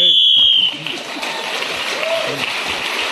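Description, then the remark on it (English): A single loud, shrill whistle blast lasting about half a second, blown to end a timed round in a radio panel game while a contestant was speaking. It is cut off abruptly and followed by a steady wash of rushing, hiss-like noise with faint murmuring underneath. “… was speaking then as a whistle when gained an extra point, and others in the round, he's moved forward.”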